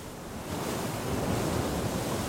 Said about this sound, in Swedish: Vågorna fortsätter slå mot skrovet.